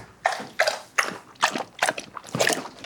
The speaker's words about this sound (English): Okay, this is Ethel drinking water.